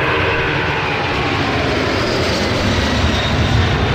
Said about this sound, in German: Na, habt ihr das Geräusch erkannt? Ein abhebendes Flugzeug. Woran denkt ihr denn, wenn ihr das hört? Wahrscheinlich an den nächsten Urlaub.